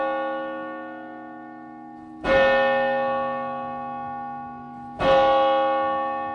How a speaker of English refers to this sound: Daniel Albert rings this church bell at 7 p.m. every Friday to signal the doors are open